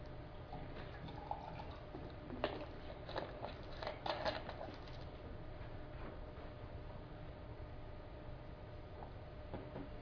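Faint trickling and splashing of water being poured into a glass for drinking, in a few short bursts over a steady low background hum, with no one talking.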